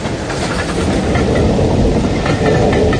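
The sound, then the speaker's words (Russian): A passenger train rolls steadily along the rails, a continuous loud rumble with faint rhythmic clatter of wheels and a hiss of high-end noise throughout, no voices present. “Он высунул голову, пытаясь разглядеть состав.”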